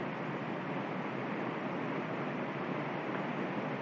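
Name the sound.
river water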